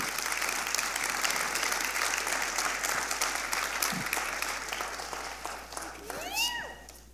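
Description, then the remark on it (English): A steady round of applause from a crowd as members currently serving on the youth team come up, dense clapping that holds loud for several seconds, then thins out as a few rising whistles or cheers break through near the end. “It's like, and that is worth one more round of applause.”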